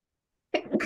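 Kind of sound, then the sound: human body sound, sneeze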